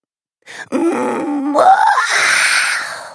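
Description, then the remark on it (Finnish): A voice imitates a dog's wide-mouthed yawn: a low, drawn-out groan that swoops upward in pitch into a breathy, whining sigh, fairly loud, about two and a half seconds long. “Koira haukotteli suu ammollaan ja asetteli ison kielensä hampaidensa päälle.”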